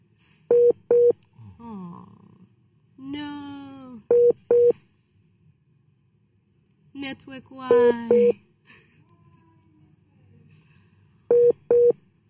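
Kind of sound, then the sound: signal or alarm, dial tone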